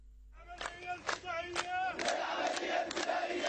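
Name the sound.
crowd chanting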